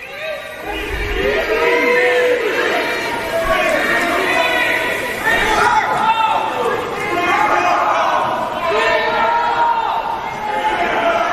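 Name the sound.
arena crowd cheering loudly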